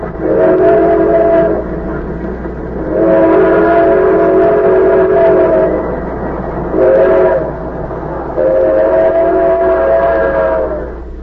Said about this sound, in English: The train roared through the night, and one by one the slits of light under compartment doors blinked out as travelers went to their berths.